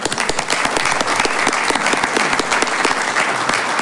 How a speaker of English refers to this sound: If we can have you stand, we can give them a round of applause.